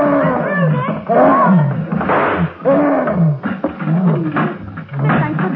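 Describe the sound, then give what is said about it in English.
An attacking gorilla in its cage at the Idle Hour Amusement Park roars loudly and without pause, a series of rough, bellowing calls whose pitch repeatedly slides downward, overlapping into one continuous snarling outburst. “In the gorilla's cage at the Idle Hour Amusement Park, Nick and Patsy realize that revolver bullets may slow up the attacking monster, but never stop him.”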